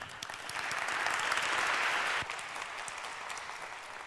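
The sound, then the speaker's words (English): A crowd claps steadily in a dense, sustained burst of applause that swells, then drops slightly in level after about two seconds and continues at a softer, even patter, welcoming a speaker who presents the Cyborg Foundation. “So please give a warm round of applause.”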